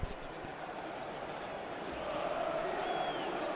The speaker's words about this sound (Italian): Si vedono, si fanno sentire naturalmente i tifosi giallorossi. Buon colpo d'occhio comunque oggi il Meazza, e i due anelli quasi praticamente pieni, anello quello superiore della curva sud, ci sono quasi tutti i tifosi